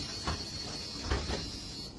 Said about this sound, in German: die Tür ist offen, noch, muss man dazu sagen. Ja. Und von hinten nähert sich ein kleiner Junge. So, wir hören mal rein, was diese Situation wohl bringt. Die Tür schließt sich.